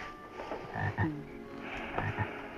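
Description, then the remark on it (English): Bullfrogs croak in deep, resonant bursts against a steady night backdrop, with several calls spaced irregularly and a faint, constant hum of crickets underneath. “Hear those crickets and bullfrogs?”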